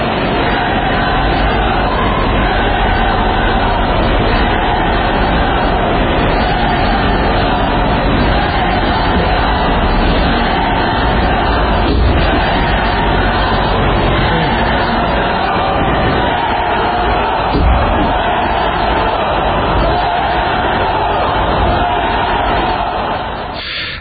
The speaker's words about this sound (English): About 1,000 people chanting, "Let us go," at that point.